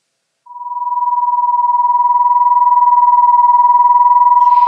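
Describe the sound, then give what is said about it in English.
A steady pure tone that wobbles rapidly in loudness, a fast regular wah-wah pulsing from two nearly matched pitches, sustained alone for several seconds without any voices. “If the two frequencies are different, but fairly close, instead of a unison sound, we hear a beating sound, often described as a wobbly or a wah-wah-wah sound.”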